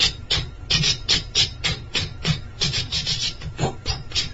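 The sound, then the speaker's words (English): Clothes are scrubbed by hand on a bathroom floor in quick, steady back-and-forth strokes, a rhythmic rasping swish repeating roughly three times a second, fairly loud with no voices. “So, Swamiji, what are you doing in there? He said, I'm washing my clothes.”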